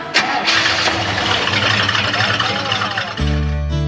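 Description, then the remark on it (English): A Chevelle car's engine cranks noisily for about three seconds as the key is turned, then catches and settles into a steady, loud, low idle. “We surprised her with her first car, with the Chevelle, for her 16th birthday. And it was a special day, very special day. Turn the key.”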